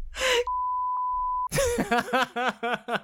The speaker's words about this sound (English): Yeah, I'm just gonna cut that bit out or fully beep it. Like, no, because you know how sometimes when, like, say you say the word fuck on TV and they censor it out and it's like, that?